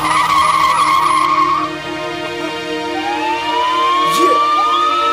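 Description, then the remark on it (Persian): Tires squeal in a loud, sustained screech as a car accelerates away, the pitch sweeping upward over a few seconds with a brief rising whine near the end. No one speaks. “بریم سوار ماشین شیم که داریم میریم.”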